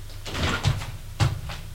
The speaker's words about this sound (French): Frappe à la porte. Entrez.